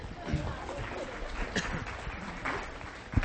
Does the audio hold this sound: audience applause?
yes